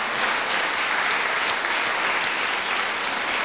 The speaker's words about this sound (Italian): Bene, allora, io naturalmente credo che varrebbe la pena di fare un applauso anche al motore di tutto questo, parlo della persona che è al mio fianco, chiaramente.